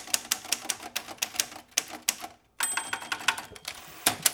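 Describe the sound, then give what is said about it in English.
Typewriter keys clack in a quick, uneven rhythm, each strike sharp, with a brief pause midway before the typing resumes, and a small bell-like ding near the end; the typewriter is manual, not electric. “You know, you press a key and it's all physical.”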